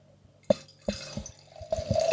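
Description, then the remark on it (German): Wine splashes and gurgles into a glass in a few bursts, the pour steadying into a continuous trickling stream toward the end, with no talking. “So, wird Zeit, dass wir wieder was trinken hier. Oh ja. Mal ein bisschen die Luft aus dem Glas lassen hier.”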